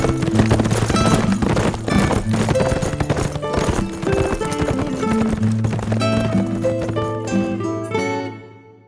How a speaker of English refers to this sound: Matt grinned at Sam, and the two men urged their horses into a fast lope to follow the wind.